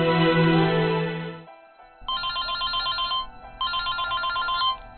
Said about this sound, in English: In the lobby of Manhattan Monthly, Mac receives a call on his cell phone on his way to see Rex.